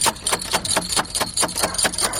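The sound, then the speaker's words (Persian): Someone knocks on the outer door in the middle of the night, about ten times in a steady, fairly quick rhythm, each sharp woody rap ringing out clearly with no voices. “او مردکه بخی که دروازی اولی تک تک شد.”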